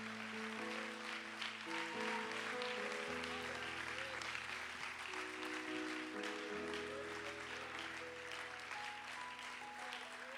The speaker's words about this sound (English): Let's give the Lord a big hand clap of praise.